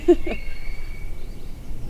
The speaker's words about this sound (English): Song sparrow off in the distance. There it is.